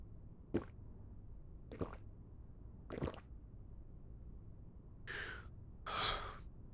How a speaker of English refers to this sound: No, at this stage in the story, I shall lean on the poppy instead, on its sweetened nectar stirred into pure cold water.